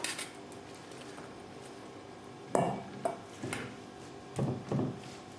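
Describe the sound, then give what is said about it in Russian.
Several short clinks and scrapes of a spoon against a bowl and plate as a bright, crunchy salad is spooned onto a plate, coming in small bursts, with no talking. “Осталось только выложить его на тарелку.”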